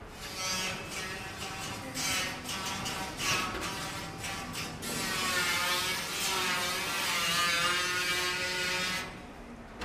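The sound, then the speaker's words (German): A power sander grinds steadily across the metal body of an Auto Union Silver Arrow race car, sanding off its paint, a buzzing, raspy whine with choppy scraping strokes at first, then a smoother sustained drone, fairly loud with no voices. “Warum schleifen wir nicht einfach den Lack ab?”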